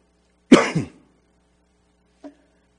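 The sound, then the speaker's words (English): A sharp cough bursts out with a rough double-pulse, followed after a short silence by a brief, softer throat clearing. “It's great to be married and share all things, isn't it? Like a cough.”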